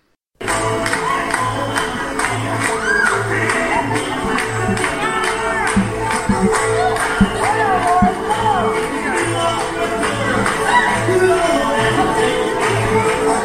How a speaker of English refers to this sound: Those were the sounds of the first annual Ramona Grape Stomping Competition, where teams of competitors vied to see who could crush the most grapes in 2 minutes and emerge champion. Teams chose names such as the Juicy Lucys or the Toe Jammers.